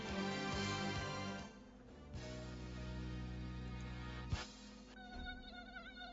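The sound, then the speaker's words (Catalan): A tiger mosquito whines, a thin steady buzz rising and falling in pitch as it hovers, continuing for several seconds with no voices. “Compte, el mosquit tigre ja arriba.”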